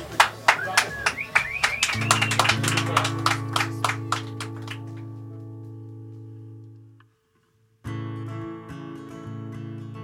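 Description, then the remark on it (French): Scattered hand claps from a small audience ring out for a few seconds, applauding a trio about to play a live session, fading as a steady, sustained musical chord holds underneath; music then resumes after a brief silence. “Merci à vous, on peut les applaudir.”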